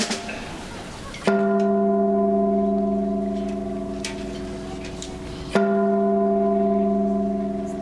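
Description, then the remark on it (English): Thomas Jefferson's own Chinese gong, housed on the rooftop of Monticello, is struck twice at the top of the hour, about four seconds apart, to mark the start of a naturalization ceremony. Each loud hit rings out with a long, sustained metallic tone that slowly fades before the next strike. “Thomas Jefferson's own Chinese gong, housed on the rooftop of Monticello, struck at the top of the hour and marked the beginning of this ceremony.”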